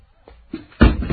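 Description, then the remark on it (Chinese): A few dull knocks on the door of Yang Hu's house as Confucius's party calls, in quick succession, the later ones louder, each a short thud with a little ring after it. “开门！”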